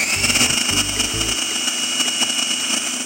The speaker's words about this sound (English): So what we're going to do is we're going to start the food processor, and then you're going to pour that through the little feed tube on the top really, really slowly while we process it.